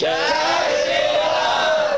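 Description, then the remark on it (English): A single loud, sustained battle roar from a human voice, representing Hanuman's roar, strained and harmonically rich, holding steady for about two seconds with a slight rise and fall in pitch. “while still others simply fell to the ground, stunned with fear from hearing Hanuman's roar. What was he roaring?”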